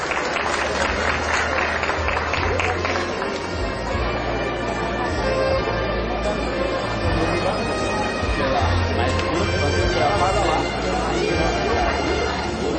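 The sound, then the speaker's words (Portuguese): A large audience applauds steadily for over ten seconds at a ceremony awarding the title of Formosa citizen and a merit commendation. A dense, continuous wash of clapping never fades, with murmuring voices and crowd noise mixed underneath. “Uma salva de palmas.”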